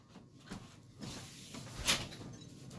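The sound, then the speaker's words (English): A door opens with a soft rumble followed by a brief, sharp rattle or click near the end, with no talking. “Oh, you hear something? Yeah, never got the door.”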